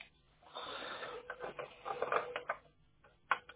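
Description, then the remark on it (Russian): Fumbling and rustling, then a few sharp plastic clicks as an internet ethernet cable with a plastic latch is pushed back into a router's port until it clicks, the last click landing alone after a short pause. “Вы не могли бы кабель интернета из роутера вытащить, там защелку пластмассовую?”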